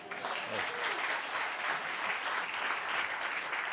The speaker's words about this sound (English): Oh, you don't have to applaud. That's okay.